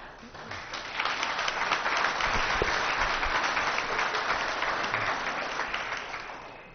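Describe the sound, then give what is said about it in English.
A crowd at a public board hearing on Central Coast water quality breaks into sustained applause, dense overlapping claps swelling quickly and holding steady for several seconds before starting to taper off. “Folks, I would appreciate it if we would have no clapping.”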